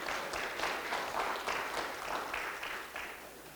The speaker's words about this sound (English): I just find myself suggesting we ought to clap again. Come on.